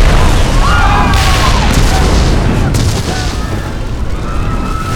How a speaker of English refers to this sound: The Melbrook students were thrown to the ground by the concussion wave. Deaf from the explosion and dumb with shock, they sat up and stared at the gaping hole where the front of the six-shooter had been.